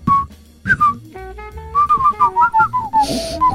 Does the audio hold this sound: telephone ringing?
no